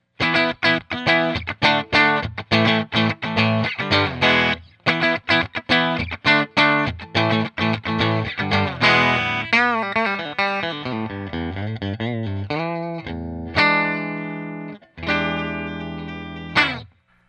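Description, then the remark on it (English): An electric guitar on its bridge pickup, played through a Blues Junior Tweed edition amp with a Jensen C12 speaker and the kitchen sink mod, plays a run of quick chopped chords, then bends and sustained notes with a bright, slightly gritty amp tone, fairly loud with no talking. “So here's the bridge pickup.”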